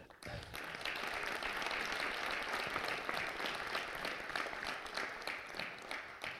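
Steady, sustained applause from an audience for a person taking over a role from a predecessor, many hands clapping at once in a dense, even wash of sound, with no voices standing out.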